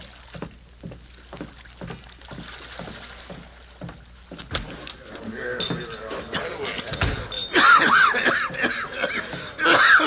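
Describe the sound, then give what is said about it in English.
A steady run of rhythmic knocks and splashes gives way to a harsh fit of dry, hacking coughs from a man reaching a ship's dock, the rasping bursts coming in quick clusters and growing louder toward the end. “He hesitated for a moment as he reached the dock, while his body was shaken by a dry, hacking cough.”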